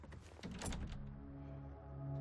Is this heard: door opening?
yes